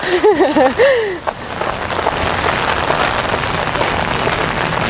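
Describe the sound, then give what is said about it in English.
Heavy rain from a hurricane pours down steadily onto hard surfaces, a dense, unbroken hiss and patter. A voice speaks briefly at the very start before the downpour fills everything. “If it was raining like this when I was in class, my ass would probably be in bed.”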